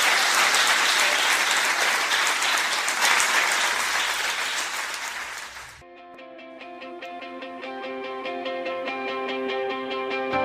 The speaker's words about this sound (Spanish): Cebi es parte importante de nuestra querida batalla. Cebi es historia de la batalla. Así que un fuerte aplauso para donde esté.